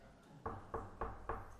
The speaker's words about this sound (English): Lo and behold, we come in on Monday morning, and guess who knocks on the door?